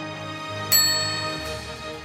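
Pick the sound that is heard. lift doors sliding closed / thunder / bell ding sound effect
bell ding sound effect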